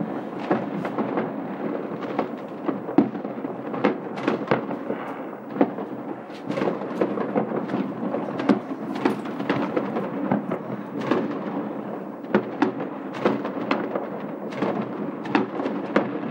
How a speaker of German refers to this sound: Draußen ist ein wahnsinniges Feuerwerk. Ich bin gerade auf unserem Balkon.